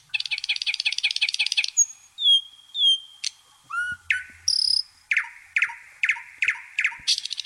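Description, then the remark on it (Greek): A nightingale sings clearly, running through rapid repeated trills, pure whistled notes and sharp chirping phrases, with brief pauses between its varied bursts and no talking. “Το αηδόνι δεν είναι τυχαίο που ήρθε στο μυαλό.”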